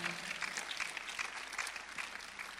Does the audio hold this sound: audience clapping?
yes